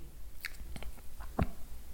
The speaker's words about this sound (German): Okay, so, dann schlucken Sie jetzt bitte einmal. Okay. Noch einmal bitte schlucken.